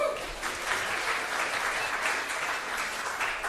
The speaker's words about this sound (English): Back to your seats. Well done. Give him a clap.